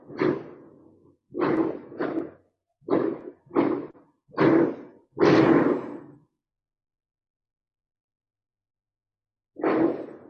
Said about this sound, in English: Big explosions in Oxford. I think they're fireworks. I hope.